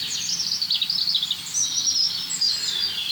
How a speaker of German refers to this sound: Und dazu ist das einfach ein super spannender Vogel, das Rotkehlchen. Vogel des Jahres 21.